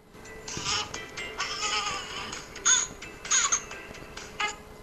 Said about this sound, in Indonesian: Terus ada macam tangisan bayi yang seperti apa lagi? Misalnya ini.